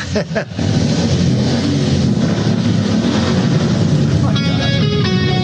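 Loud, sustained roar of several motorcycle engines of a group of bikers revving together at a Memorial Day event, a dense rumbling drone that barely lets up; a brief higher tonal whine cuts in near the end.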